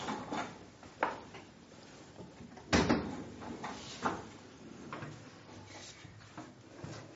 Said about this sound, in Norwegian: Vil du ha på bremsen på stolen, så er den på sida der.